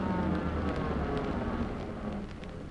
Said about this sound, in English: Uh-huh. First car pulling up to stop.